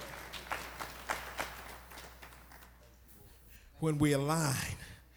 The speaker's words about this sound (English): Can we clap our hands just for this visionary to tell God thank you for what he's about to do?